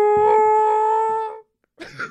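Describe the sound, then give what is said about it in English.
A voice imitates a whale call with one long, steady, tonal moan that holds for over a second before fading, followed by a short pause and a brief burst of breathy noise. “No, no, that was my whale.”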